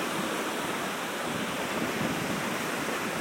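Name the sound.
sea waves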